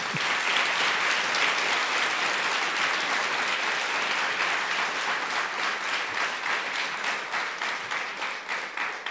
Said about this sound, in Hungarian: Nagy tapsot!